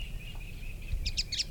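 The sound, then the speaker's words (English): A bird chatters in three quick, harsh chirping bursts near the end, over a steady high whine and low background rumble, with no voices. “Eight, chatter was from the supposed female.”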